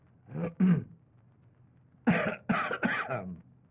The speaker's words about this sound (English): Oh, well, for pity's sake, can't a guy cough? I had a little cough in my throat, and I wanted to cough, and if a fella can't cough, maybe I'd better go out in the hall.